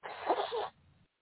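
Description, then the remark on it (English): A single loud, breathy nose blow: a rough, hissing burst of air lasting just over half a second, then a quiet, fading snuffle. No one speaks. “I'm going to blow my nose again, y'all.”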